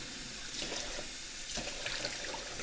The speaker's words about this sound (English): I'm going to rinse out the measuring cup here.